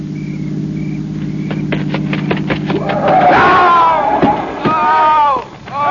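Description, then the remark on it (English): A car engine hums low and steady as the car approaches, with a few sharp knocks, then loud, excited voices break out over the rumble. “It It's a car. It's got to be the one I think it is.”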